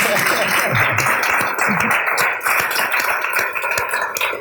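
audience applause

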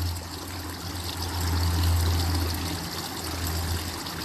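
flowing brook water

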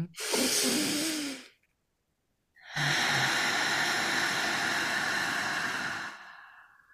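slow deep breathing

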